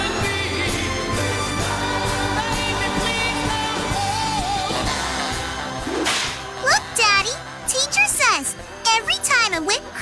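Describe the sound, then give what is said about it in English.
A dense musical bed plays for several seconds, then a rapid series of loud, sharp whip cracks snaps out, several in quick succession with brief gaps between them, opening Civic Media's Grown-Up Gift List Text to Win Contest radio segment. “Every time a whip cracks, another angel gets his wings.”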